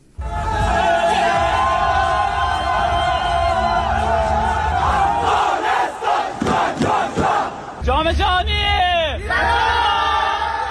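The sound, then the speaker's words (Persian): A loud crowd in Afghanistan roars and cheers continuously, celebrating the Afghanistan national futsal team's playoff win over Kyrgyzstan that qualified it for the Futsal World Cup for the first time, with shouted chants and whoops rising over the din, then excited voices yelling in celebration toward the end. “باشندگان ولایت های مختلف به گونه گروهی با پایکوبی و شور و هیجان از این پیروزی بی پیشینه تیم فوتسال افغانستان استقبال کردند.”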